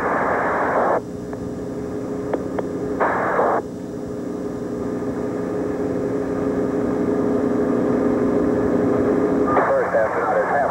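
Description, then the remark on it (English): A helicopter hovers during an astronaut recovery as astronauts are lifted up from a spacecraft. Its heavy engine and rotor roar steady and loud throughout, with brief bursts of crackly radio transmission cutting in near the start and end. “Pick up the first astronaut to take him up to the helicopter and recover the ball.”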